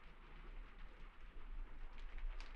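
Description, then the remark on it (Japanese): A steady, soft hiss of rain falling continuously, fairly quiet and diffuse, with a low rumble underneath and no voices. “それにこの雨の中、傘もささないなんて。”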